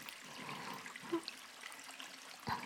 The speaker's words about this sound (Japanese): シャワーオイルってこういう意外な音が鳴るからいいんです。